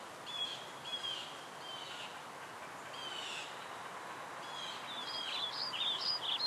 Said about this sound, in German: Ganz leise hörst du die Vögel singen, hier und da das Rascheln der Blätter und das sanfte Knacken der Äste.